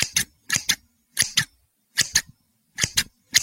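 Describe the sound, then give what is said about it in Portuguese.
Scissors fall again and again during sewing in a home in Porto União, Brazil, five sharp metallic clatters, each a quick double hit, spaced evenly about every two-thirds of a second, crisp with no talking. “A tesoura cai por diversas vezes.”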